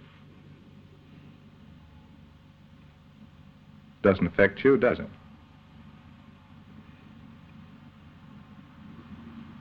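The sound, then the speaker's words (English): A bus engine running a mile or two away, a faint, steady low rumble throughout, with a person briefly speaking over it near the middle. “You realize that over there, a mile or two, there's a bus running.”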